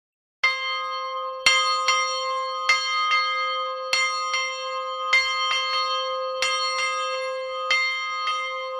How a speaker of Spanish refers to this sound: hemos tenido oportunidad de escuchar cómo suena ese toque de la campana que ha traído hasta el estudio de radio.